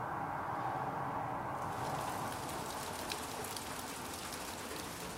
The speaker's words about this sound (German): Am nächsten Tag dann Regen.